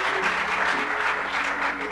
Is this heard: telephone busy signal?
no